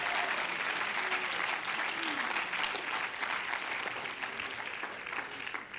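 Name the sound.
audience clapping hands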